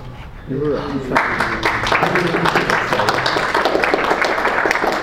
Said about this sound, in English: The most applause I've ever gotten for being boring talking about somebody else's code.